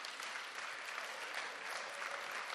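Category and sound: crowd, audience applauding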